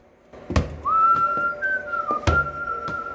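A man whistles a steady, wavering tune while bouncing a football as he heads out, several dull thuds landing at uneven intervals beneath the melody.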